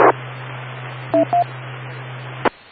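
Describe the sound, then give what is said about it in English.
Two short telephone keypad dialing beeps as someone makes a quick phone call, each a clean dual-tone chirp, sound in quick succession over a steady hum and hiss, framed by clicks at the start and end. “Stand by, because I gotta just make a quick phone call.”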